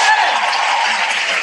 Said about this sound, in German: Sehr schön. Danke für euren Mut, und das war ein Applaus.